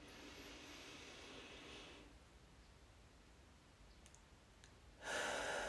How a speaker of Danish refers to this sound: Så det gør vi sammen her. Vi trækker vejret dybt ned i lungerne og helt ned i mellemgulvet. Vi starter nu.